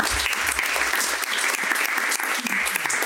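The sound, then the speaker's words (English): An audience applauds itself for its good questions at the end of a question session: a dense, continuous patter of many hands at a fairly loud, even level, with no voices standing out above it. “Give yourselves a round of applause for such good questions.”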